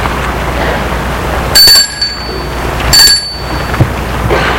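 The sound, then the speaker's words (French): A doorbell at a parents' house rings twice in the evening in short, bright bursts with a high metallic tone, about a second apart, over a steady low background rumble. No one speaks. “Soirée, Gilbert va sonner chez ses parents avec le dossier du projet.”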